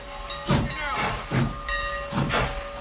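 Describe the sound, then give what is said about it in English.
A train starts moving again, pulling away with steady, rhythmic chuffs of steam and hiss, about one burst every half second, over a low rumble and a faint sustained metallic tone. No one speaks. “As the trains start moving again, she turns and runs off.”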